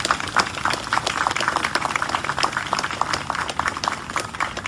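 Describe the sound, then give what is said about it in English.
A crowd claps steadily for several seconds for the officials and city staff members introduced at a city event, a dense patter of many hands with no break and no voices over it, holding an even loudness throughout. “Let's give them all a round of applause for them.”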